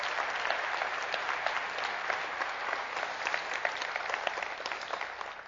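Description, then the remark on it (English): An audience at Southbrook claps steadily and continuously to welcome a guest speaker coming up to the front, a dense, even wash of many hands at moderate loudness that holds without a break for the whole stretch, with no voices standing out. “It'll take him a while to get up here, so keep on clapping, okay?”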